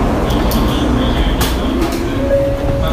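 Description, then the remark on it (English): A JR bullet train idles loudly at a station platform, giving a steady mechanical rumble with thin electrical whines and a low tonal hum rising near the end, plus faint background murmur. “We'll let the people off first, and then we'll get on to the freaking bullet train.”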